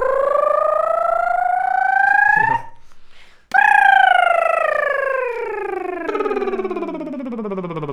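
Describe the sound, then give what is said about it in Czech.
A single voice imitates a UFO in a voice exercise, sweeping steadily upward in pitch for a couple of seconds, breaking for a breath, then gliding in one long, slow, wavering slide back down, clear. “A UFO. Padáme. Tažným paprskem dolů. Super. A nahoru. A zase dolů. Zkus to dělat delší.”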